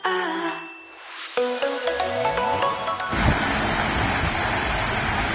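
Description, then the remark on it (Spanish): A short chiming jingle with a rising tone gives way to a loud, steady roar of rainwater from a heavy midday downpour cascading down the stone staircase of the Cuesta del Cholo in Gijón, a dense rushing like a river that continues to the end. “Esto que suena como un río es el agua cayendo en cascada por la escalinata de la Cuesta del Cholo.”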